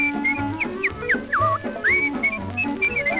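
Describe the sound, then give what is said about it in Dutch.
Someone whistles a bright, cheerful tune with quick sliding notes over a steady musical accompaniment, the melody clear and upfront. “Als hij jodelt wel, dan fluit hij.”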